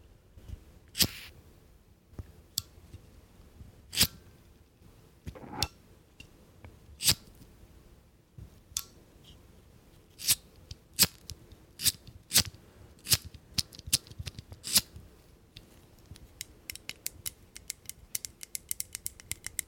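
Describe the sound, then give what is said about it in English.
A lighter being flicked over and over: sharp metallic clicks and scrapes at an uneven pace, growing into a rapid run of quick clicks at the end, with no talking. “So the first thing I have here is my favorite lighter, which Sophie's friend gave me.”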